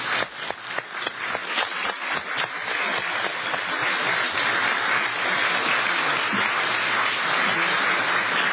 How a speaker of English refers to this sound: I think our panelists deserve a round of applause because they were wonderful.